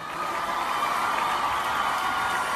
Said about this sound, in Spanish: Aplauso para nuestro presidente Díaz-Canel, que se encuentra aquí.